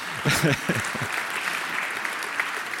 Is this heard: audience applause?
yes